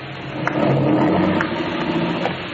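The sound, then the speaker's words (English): A car engine revs and rumbles steadily as the car pulls off to be taken around to the back, a continuous low, throaty drone with a few brief mechanical clicks and no voices. “All right, take the car around to the back,”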